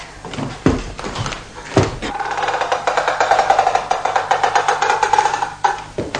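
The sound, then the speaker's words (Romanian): A door from an entryway into a bathroom is opened: a couple of knocks and clunks from the latch, then a long, drawn-out hinge creak that wavers for several seconds before a final thud. Fairly loud, no voices. “Aici suntem în tindă, după ușă e baia. Să intrăm.”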